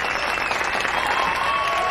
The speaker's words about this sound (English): The Love Club applauds.